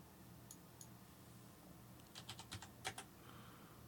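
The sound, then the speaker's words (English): Keys clack on a computer keyboard: a couple of light taps, then a quick irregular burst of several louder keystrokes against a low steady hum, with no one speaking. “Yes, you're hearing my keyboard because I did not Normally I copy these scriptures over into my notes, but I didn't do that today.”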